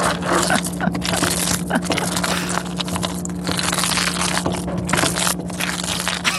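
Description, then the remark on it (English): Thick cheese sauce for mac and cheese bubbles and pops on a stove in a home kitchen, in a dense, continuous crackle, with a steady low electrical hum droning underneath the whole time and no voices. “play us a recording of the sound of his cheese sauce”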